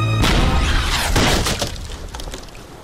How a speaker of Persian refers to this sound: سنباد گلوله خود فیر کرد و در کشتی سنتیاگو خورد.